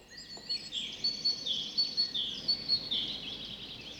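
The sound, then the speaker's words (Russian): Several small songbirds (siskins, tits and kinglets) sing together in a forest in spring, in high, thin trills and rapid twittering chirps, a steady overlapping chorus with no voices present. “В лесу запели чижи, синицы и корольки.”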